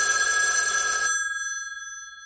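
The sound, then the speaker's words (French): A telephone bell rings loudly in one brisk burst of about a second, then its metallic tone lingers and fades away. It is a call for someone. No voices are heard. “…, téléphone !”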